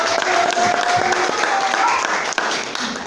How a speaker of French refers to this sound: Est-ce qu'on peut applaudir très fort pour la marraine?